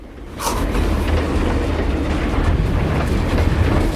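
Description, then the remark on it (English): A freight train carriage rumbles and rattles along the rails, a steady, loud rolling noise that swells in after a brief quiet moment and carries on without a break. “The girl wakes aboard the train and sees a hobo leering over her.”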